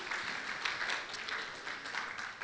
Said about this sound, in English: Give Wesley a hand clap. Thank you for being up here.